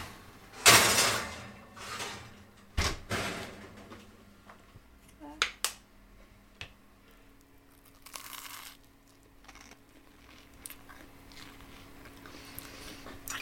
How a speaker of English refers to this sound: I cannot believe Bernardine Evaristo is about to knock on my door.